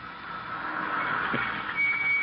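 A car pulls up, its engine and tire noise a steady, hissing rumble that swells slightly louder toward the end, where a thin high whine joins in. No one speaks.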